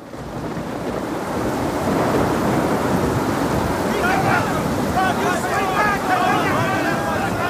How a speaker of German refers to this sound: Es ist wirklich verdammt stürmisch da draußen.